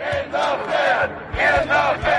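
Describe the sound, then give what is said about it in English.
A crowd of at least 40 people screams and shouts in loud, surging waves, the voices rising and falling in repeated bursts with no clear words. “There are at least 40 people now screaming”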